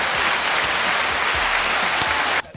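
A crowd claps steadily for Formula 1 driver Kimi in a dense, continuous wash of applause that holds at a strong, even level for over two seconds, then cuts off abruptly.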